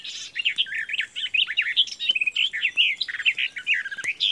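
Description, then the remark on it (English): A garden warbler sings a fast, continuous warbling song of rich, bubbling phrases, clear, running without pause over a quiet background with no voices. “It's really quite a rare and specialised summer visitor, but it's a bird I'd love to introduce to you, the garden warbler.”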